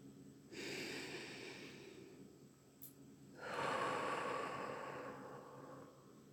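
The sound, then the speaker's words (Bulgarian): Slow, deep breaths: a long airy breath in, a short pause, then a fuller, louder breath out, with no talking. “Приемете тези няколко вдишвания като прочистване на съзнанието.”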